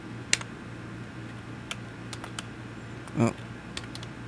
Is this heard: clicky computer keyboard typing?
yes